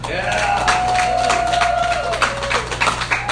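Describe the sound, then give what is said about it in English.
A crowd cheers and claps steadily after a football victory, a dense wash of voices with scattered sharp claps and one long sustained shout running through it. “Love that crowd after a victory. It is a good crowd.”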